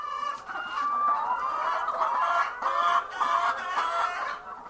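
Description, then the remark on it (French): A crowd of laying hens clucks and cackles nonstop on a farm in Begedo, 45 km west of the town of Tinkodogo, their overlapping calls forming a dense, steady chorus, with no one speaking. “ramasse fièrement des œufs de poule pondeuse dans sa ferme”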